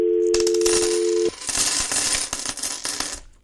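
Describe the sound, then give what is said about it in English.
Coins clatter and jingle as they drop into a payphone, a rapid cascade of metallic clinks, with a steady electronic tone humming through the first part before cutting off. “All right, take more coins.”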